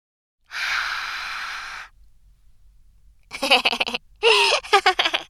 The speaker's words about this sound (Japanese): お姉さまのありがたい吐息だぞ。どうだ？酒臭いか？